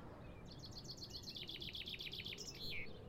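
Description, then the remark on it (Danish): A bird sings a quick series of repeated high chirps, about a dozen notes in a steady run, over a low, continuous rustling of leaves in the wind in a forest. “Bladene, der rasler i vinden. Hans fodtrin i skovbunden. Og fuglene, der pipper.”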